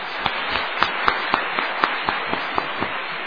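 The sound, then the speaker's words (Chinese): A church audience applauds steadily for about three seconds to encourage and affirm the choir, the band and the church co-workers. It is a dense wash of clapping with sharp claps standing out at a fairly regular, quick rhythm. No voices are heard. “咱搁一遍一个掌声，甲因鼓励，甲因肯定。”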